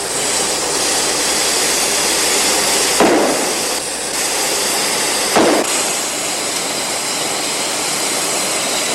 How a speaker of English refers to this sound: Stop the train! Somebody stop the train!